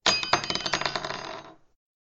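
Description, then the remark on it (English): A large, heavy, round metal bell is rolled over and tinkles, giving off a quick run of bright, high metallic jingles for about a second and a half before it settles and fades to silence. “She rolled the bell over and it tinkled.”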